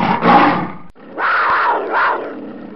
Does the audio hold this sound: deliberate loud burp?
no